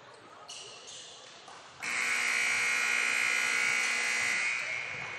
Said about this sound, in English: All right, there's that buzzer.